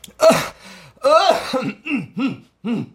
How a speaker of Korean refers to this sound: 잠시 머뭇머뭇하던 홍생은 불어 헛기침을 했다.